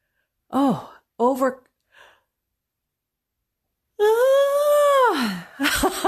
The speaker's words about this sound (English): That was an overcoming yawn. I couldn't stop it. That one was crazy.